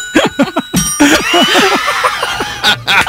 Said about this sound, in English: My bell stuck.